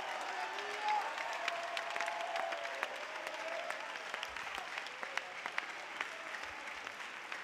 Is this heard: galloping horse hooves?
no